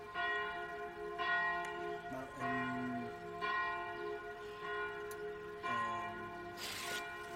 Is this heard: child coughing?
no